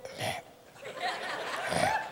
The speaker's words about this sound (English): Start burping, get that heart back.